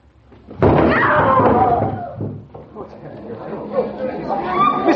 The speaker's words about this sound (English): now Miss Michaels has been hit by a sandbag.